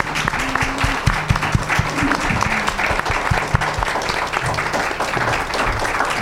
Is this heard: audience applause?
yes